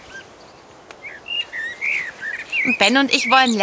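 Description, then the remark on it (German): Blackbird song of bright warbling whistles and chirps, rising and falling in short phrases, then a person starts speaking over the singing near the end. “Ah, da ist ja wieder der Vogelgesang.”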